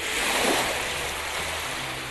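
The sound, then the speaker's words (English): Steady ocean wash, a broad hissing rush of open water with a gentle swell rising and easing, heard alone at a constant moderate level with a faint low rumble beneath. “Imagine a full moon over the open ocean.”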